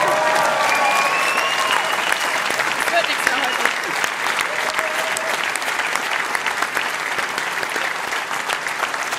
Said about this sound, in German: Ja, danke erstmal für die Worte, für den Applaus, glaube ich, da nehme ich sehr, sehr gerne stellvertretend dann für unser Trainerteam an.